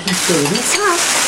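Someone washing dishes: a steady hiss of running water fills the whole moment, while a voice speaks briefly over it.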